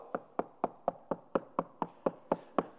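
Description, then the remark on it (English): A steady series of about eleven sharp knocks, evenly spaced and fairly quick, like persistent rapping on a wooden door, clear with no talking. “You don't just go up and go, knock. No, you go up.”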